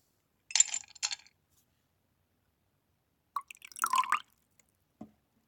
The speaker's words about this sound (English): If you're having bourbon, go ahead and pour me a glass.